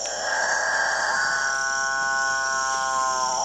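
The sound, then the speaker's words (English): A male capuchinbird gives a single long, low mooing display call, rich in harmonics and held steady for a couple of seconds over a constant high buzz of insects. “apparently irresistible noise attracts the female capuchin birds, which jostle each other ruthlessly in the quest to get close to the studliest of the displaying males.”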